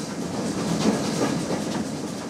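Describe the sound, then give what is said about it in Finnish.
A train rumbles steadily along the rails, its low, continuous roar overlaid with rhythmic clattering and faint hissing, with no voices. It is a deportation train carrying Ingrian Finns to Siberia, around 1929–31. “Junan jyskytystä kuunteli myös Pietari ja Katariina Jääskeläisen 12-henkinen perhe.”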